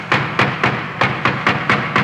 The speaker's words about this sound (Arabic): سمعنا طرقا عنيفا على الباب انخلعت له قلوبنا.